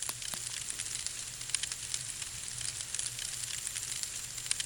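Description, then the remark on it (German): A small campfire of gathered wood crackles steadily in the bend of a passage, with irregular sharp pops over a constant bright hiss and a low rumble underneath, and no voices. “Schon nach 10 Minuten prasselt ein angenehm warmes Feuer und schützt vor der langsam über die Mauer kriechenden Kälte.”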